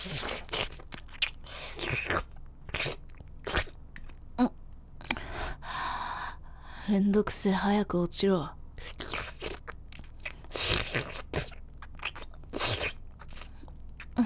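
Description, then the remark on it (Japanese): Wet, sticky saliva and mouth noises: a long run of quick smacking clicks and slurps in an irregular rhythm, with a few short spoken words and breathy vocal bits mixed in partway through. “お前の中からご主人様の唾液音が聞こえてくる。”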